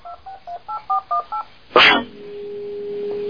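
Telephone redialing tones: six quick, evenly spaced touch-tone beeps, then a short burst of crackly noise and a steady, low line tone that holds to the end. No one speaks.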